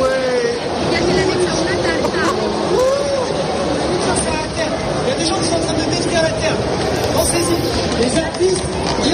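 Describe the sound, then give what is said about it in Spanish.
A dense crowd at the Louvre Museum shouts in disbelief and laughs after a cake is thrown at a painting, with overlapping raised voices, someone speaking Spanish, rising and falling in a steady loud hubbub throughout. “Se oyen gritos de incredulidad, risas, alguien que dice en español que le han tirado una tarta al cuadro y finalmente las explicaciones del agresor diciendo que pensemos en la Tierra y en el planeta”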